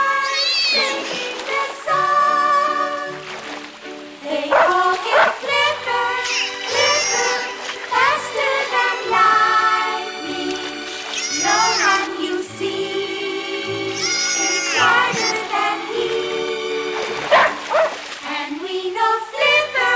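A small black dachshund yips and whines again and again in high, excited bursts, fairly loud, with busy tonal sound running steadily underneath. It has fallen off a boy's lap into the water and is paddling towards Flipper the dolphin.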